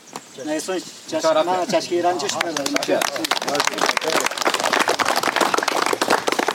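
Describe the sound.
Outdoors at a road construction site where workers are digging a trench across the road, voices call out for a couple of seconds, then a crowd breaks into steady, loud applause, with many sharp overlapping claps continuing to the end while people keep talking underneath.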